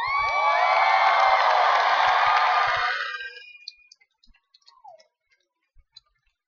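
Clapping with excited cheering voices rings out loudly for about three seconds, then fades quickly into a few scattered, isolated claps and a brief rising voice.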